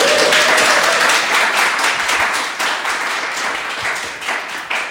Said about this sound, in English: I want everybody in this room to come to every meeting. Just because you clap. It's just, it's great to have people actually talk to. That may be the first time I heard applause in town hall.